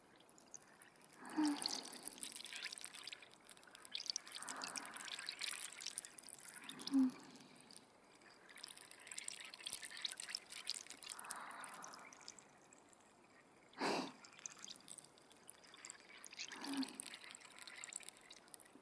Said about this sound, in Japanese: シュワシュワで頭いっぱいになっちゃうね。頭の中に直接炭酸を流し込まれてるイメージ。